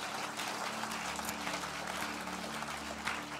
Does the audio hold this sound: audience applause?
yes